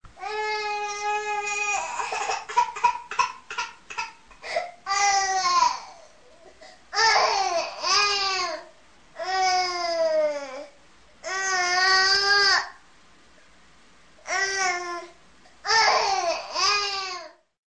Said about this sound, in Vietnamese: Đứa bé thức giấc, khóc oa oa. Tiếng khóc càng to